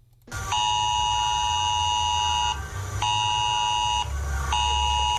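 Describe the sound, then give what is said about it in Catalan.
A civil protection mobile phone alert tone, sounding during a civil protection test, blares in loud, steady buzzing bursts, a long sustained tone followed by shorter ones separated by brief gaps, with a low rumble underneath and no talking. “Acabada era prova de protecció civil, també habilitarà i enquesta per saber si la població ha recebut correctament aquestes alertes.”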